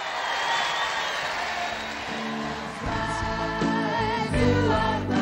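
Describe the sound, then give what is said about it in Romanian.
Thousands of young people in Piazza Lenio Flacco, Brindisi, warmly applaud the Pope in a steady, dense wash of clapping and cheering, and sustained melodic tones rise through the noise during the second half. “Primit cu aplauze călduroase de mii de tineri, Papa a numit orașul Brindisi o poartă deschisă spre mare, exprimând propria prețuire pentru spiritul de primire a acestei populații”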